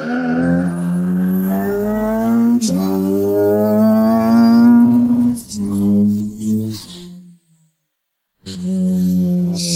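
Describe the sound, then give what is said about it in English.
A loud car engine accelerates hard in second gear with the accelerator floored, its roar climbing in pitch, briefly dipping, then pulling again before cutting out to a short silence and returning. “What happens if you take a car? Sorry, a ladder with an engine and put your foot down in second gear.”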